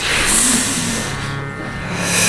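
A bus engine revs up and accelerates, a steady, loud rumble with a rising whine that fills the whole moment, with no voices.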